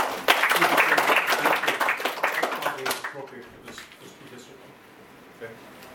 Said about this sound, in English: We could hold the applause and cheering down to a minimum and make us get through this a little quicker.